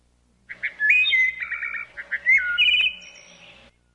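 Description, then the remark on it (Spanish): Small birds chirping in a lively three-second burst of high, bright trills and rising whistled notes, fairly loud and continuous, with no voices. “Cuando ese día acabaron su trabajo y quisieron regresar, no encontraron el camino, porque los pajarillos se habían comido el pan.”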